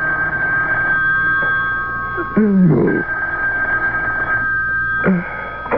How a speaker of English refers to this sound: A couple of hours later, the phone rang.